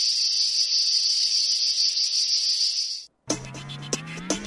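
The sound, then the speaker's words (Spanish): A cicada buzzes loudly and steadily for about three seconds, a shrill unbroken drone, then cuts off abruptly and gives way to a different, tonal sound; the cicada song is the jingle of the UPB Radio programme La Chicharra. “El cant de la Chicharra, música i desfici en UPB Radio.”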